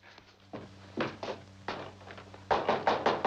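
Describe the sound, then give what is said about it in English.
Heavy pounding on a bank door by a young man holding a money bag: a few separate, spaced thuds, then a quick burst of four louder blows in a row. No voices, just a low steady hum underneath. “The younger man gives him a cautious look, then grabs a money bag from behind the seat and pounds on the bank door.”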